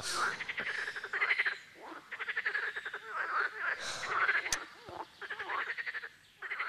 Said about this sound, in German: Die wirklich sexbesessene Frösche. Wie lange machen die denn noch?